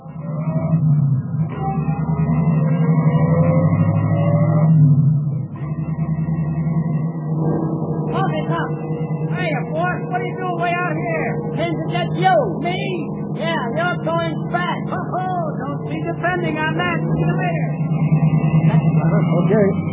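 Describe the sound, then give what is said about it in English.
A taxi cab's engine hums steadily throughout as it drives along following a sailor on a motorcycle, with a busy clutter of squeals and voice-like chatter piling on top through the second half. “Cabby, follow that sailor on the motorcycle.”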